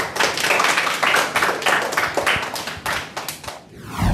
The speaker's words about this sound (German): Deshalb jetzt gibt es erstmal einen Applaus von unseren zwei Sportlern für euch.